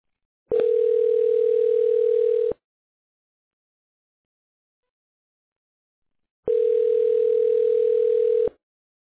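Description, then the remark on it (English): A phone line rings twice as a call goes through to Amazing Garage Door Service: two steady, buzzing tones, each about two seconds long, separated by roughly four seconds of silence. No one speaks. “Thought it was you. So that's why I picked up.”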